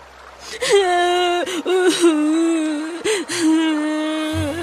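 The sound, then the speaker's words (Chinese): A little carp cries loudly: a wailing cry that rises and falls in long drawn-out moans, broken by a few sharp sobbing gasps, with no talking alongside. “有一回，小鲤鱼又饿着肚子回家了，感到很委屈，大声地哭了起来。”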